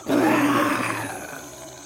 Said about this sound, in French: C'est alors qu'un terrible rugissement retentit.